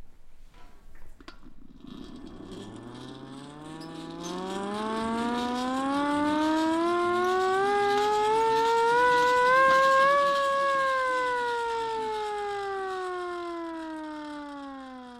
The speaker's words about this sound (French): Bah, c'est une petite sirène. C'est une poupée? Non, c'est une sirène à manivelle. Je vous fais écouter.